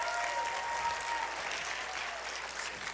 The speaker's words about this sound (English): There is big entrance there for a big guy. So give them a round of applause as they come.